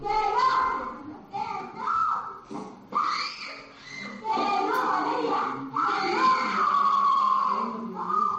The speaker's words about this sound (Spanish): Es el grito de la niña es insoportable. Es de una pobrecita.